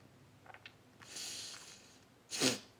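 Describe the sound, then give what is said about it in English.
Nasal sniffling: a couple of faint quick sniffs, a longer drawn-in sniff, then one sharper, louder snort-like sniff near the end, with no talking. “Oops, sorry. My nose is sniffling.”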